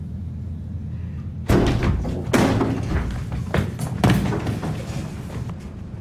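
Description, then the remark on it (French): People putting away a heavy piece of furniture in a scene from the silent film The Tribe: a few loud wooden thumps and knocks, with scraping and clatter in between, over a low steady rumble. “Alors, il y en a un qui est peut-être pas forcément évident à deviner, c'est le dernier extrait où on entend des gens qui rangent un meuble ou je ne sais quoi.”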